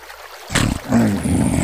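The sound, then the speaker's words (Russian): After a brief silence, steady rushing water of a river swells in and keeps flowing, a continuous babble like water running over stones. “Скоро путь им преградила река.”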